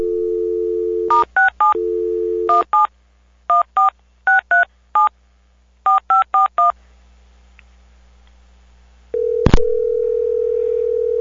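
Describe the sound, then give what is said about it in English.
A telephone dial tone gives way to a quick run of touch-tone keypad beeps in short bursts, then a brief hush, a click, and a steady ringing tone on the line. No one speaks. “Okay, I'm going to click over, and when I come back, the phone will be ringing, and I'll be silent.”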